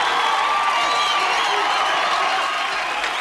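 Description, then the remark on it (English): A boxing arena crowd cheers in a dense, steady roar, loud and unbroken, with scattered applause, voices and thin whistles rising through the din, anticipating a fight as boxer Apollo Creed is in the ring. “The crowd anticipating a great fight now as Apollo is in the ring.”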